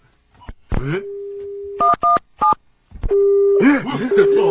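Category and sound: signal or alarm, telephone busy signal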